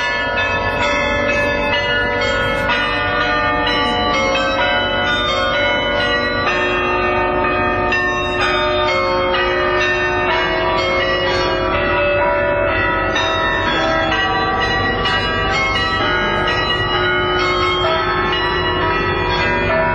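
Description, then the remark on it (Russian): Church bells ring out a melody as a tribute to a singer, their overlapping tones sustaining and blending into a rich, continuous wash of pealing sound, loud and steady throughout with no voices. “Дань уважения, исполненную, повторяю, на церковных колоколах.”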